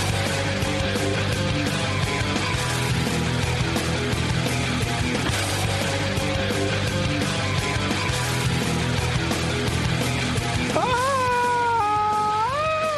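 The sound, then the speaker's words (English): A song plays steadily and loudly throughout, and near the end a person's voice joins in, singing along with long, sliding notes over the music. “I was singing along to ….”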